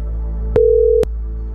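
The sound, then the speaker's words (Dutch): A telephone line tone as a radio show places a call to a colleague: one steady, mid-pitched beep lasting about half a second, framed by soft clicks, over a constant low hum with no talking. “Ja, we gaan een telefoontje doen met een van onze collega's.”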